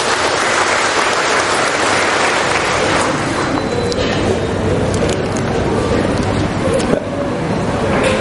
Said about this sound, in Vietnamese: Chúng ta cho tràng pháo tay mời ông này lên đây.